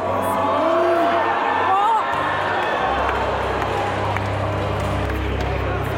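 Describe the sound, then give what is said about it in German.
A large crowd of football fans roars and shouts at one of the Danish team's shots on goal, a dense, continuous wash of voices with a few rising whoops and scattered claps; the noise stays loud throughout, with a low hum joining partway. “Denn Stimmung ist erlaubt, wie hier bei einem der Torschüsse der Dänen.”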